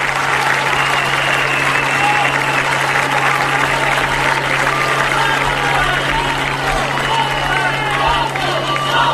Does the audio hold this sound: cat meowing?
no